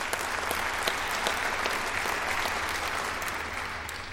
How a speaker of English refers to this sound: And yes, you may clap.